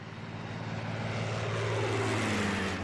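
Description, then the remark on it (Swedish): A red propeller airplane drones past, its low, buzzing engine hum swelling steadily louder with a slight shift in pitch. No one speaks over the continuous engine noise. “Vilket fint rött plan!”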